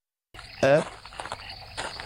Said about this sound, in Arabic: قطعت صوت خطوات.